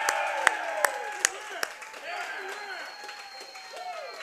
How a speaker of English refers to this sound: So right now for us live here, a cheer for Andy Reid to get him back on that field.